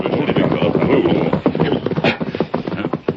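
horse hooves clip-clopping

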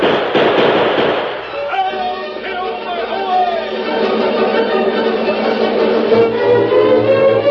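gunshots

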